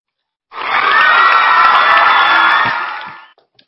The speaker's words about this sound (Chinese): 好，我给老师送上掌声啊！